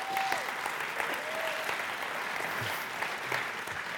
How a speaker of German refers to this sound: Gebt ihr mal einen fetten Applaus.